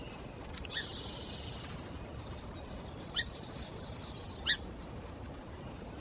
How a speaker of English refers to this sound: It's 6 o'clock, sunrise in the marsh. Song sparrows, American robins, red-winged blackbirds, nuthatches, yellowthroats, and ravens are heard in the rich tapestry of morning birdsong.